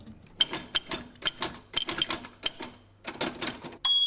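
Sharp, clacking keystrokes from an antique mechanical typewriter, struck in quick irregular bursts with brief pauses, fairly loud, ending with a bright metallic ding and carriage sound.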